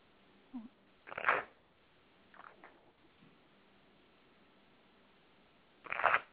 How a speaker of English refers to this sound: I'm going to shuffle the cards and we'll see if we can pick up on Mark.